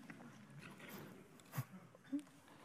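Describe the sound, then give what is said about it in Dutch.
Someone takes a quiet sip of a drink, with a soft slurp followed by a gulp, over faint background hiss and no talking. “Ik neem ook even een slokje.”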